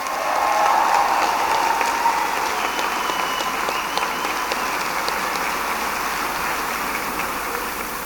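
Sustained applause from a large audience after a speech calling for a united Ireland of equals at a Sinn Féin motion debate, a dense wash of clapping that stays steady and loud throughout, tapering only slightly toward the end, with no voices heard.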